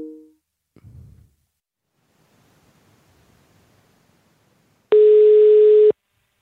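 A loud, steady telephone tone sounds for about one second near the end as a call is placed again, preceded by a brief faint tone at the start and some quiet rustling, with no one speaking.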